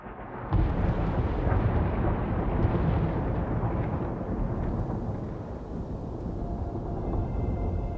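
A song intro by an English three-piece metal band bursts in after half a second of quiet: a loud, dense wall of rumbling, distorted sound that holds steady and slightly eases toward the end, with no voices.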